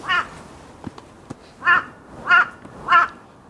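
A crow caws four times in Busan, harsh and nasal, in a slow, evenly spaced series, clear, with a couple of faint clicks between calls and no talking.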